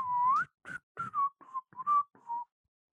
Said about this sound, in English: My whistling would be something like this.